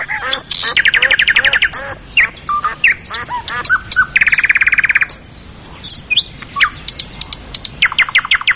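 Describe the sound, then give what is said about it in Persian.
A myna bird calls loudly and continuously, mixing rapid rattling trills, whistles and harsh squawks in varied bursts, with no talking. “پرنده مرغ مینا در خوراک همه چیز می خوره، میوه ها دانه ها را، شرات جنور کوچک.”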